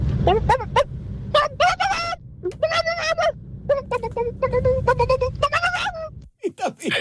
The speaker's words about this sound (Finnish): Kukko kiakuu.